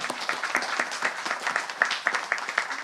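A crowd applauds a woman after her baptism, a steady, dense patter of many hands clapping with no voices over it, sustained for a few seconds at moderate loudness.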